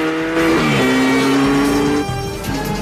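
A motorbike engine roars loud, its pitch climbing as it revs and speeds away in pursuit of a taxi, holding a steady high whine before easing slightly near the end.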